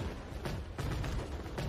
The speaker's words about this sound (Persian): عالی، چقدر سر و صدا میکنن. چقدر خشنگه. آتیش بازی معرکه ای.